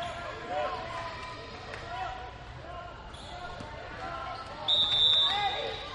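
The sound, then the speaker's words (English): A basketball dribbled by a North Stars player on court two, thumping in a steady repeated rhythm beneath a constant murmur of crowd voices, with a brief shrill whistle cutting in near the end. “Sent ahead, North Stars on the dribble.”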